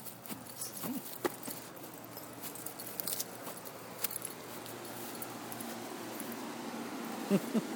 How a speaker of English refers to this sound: And of course you can hear our ACs.